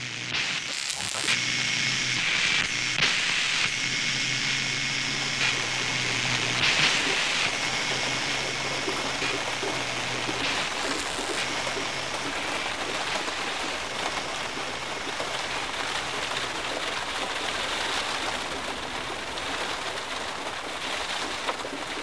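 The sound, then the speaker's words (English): Heavy, steady torrential rain pours down over South Yorkshire in a dense, hissing wash with no let-up, drops drumming on surfaces, loud and continuous throughout. “Torrential rain continues over the whole of South Yorkshire.”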